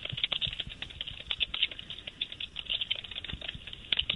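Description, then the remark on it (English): Fast, steady typing on a computer keyboard while paperwork for a customer's call is filled out, a dense patter of small clicks running the whole time with a thin, phone-line quality and no one speaking. “What are you typing?”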